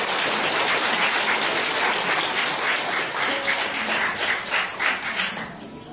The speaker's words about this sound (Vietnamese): Xin quý vị một tràng pháo tay nữa cho các em.